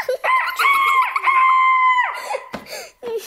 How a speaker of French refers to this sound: C'est pour un coq acheté. Mon coq fait. Cocorico.